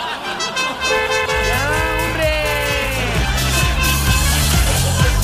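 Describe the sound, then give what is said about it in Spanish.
A car horn honks loudly in long sustained blasts over a steady engine rumble that pulses rhythmically underneath. “No, sí, el ratoncito es el que le gusta andar apretando el tema de la bocina.”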